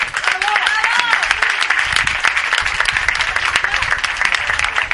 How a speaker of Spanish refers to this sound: Me parece que el centro también se hace con estas aportaciones. Para todo ello, un aplauso.